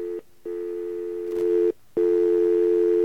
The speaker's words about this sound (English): And we're going to get ourselves a dial tone here. Oh, yeah, the stupid pulsing dial tone again.